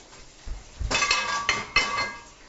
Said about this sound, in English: And I'm going to get another burner set up with my onions. No, need a bigger skillet. There we go. It's always a good sign when I have two cast iron skillets going.